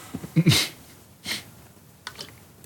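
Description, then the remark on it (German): A fit of dry coughing from a dry throat: one loud, harsh cough, a softer second one a moment later, then a couple of faint, breathy hacks trailing off. No talking. “Weil ich gerade husten musste.”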